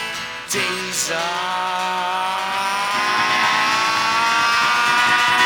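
A diesel car engine with no catalytic converter revs, its rough, throaty drone climbing steadily in pitch and growing louder over several seconds, with no voices.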